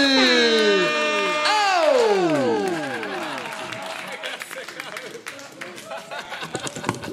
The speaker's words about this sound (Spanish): Bueno, vamos a darle la bienvenida a alguien que parecería que no le gusta ningún tipo de migrantes viniendo para acá. Fuerte aplauso para John Purcell.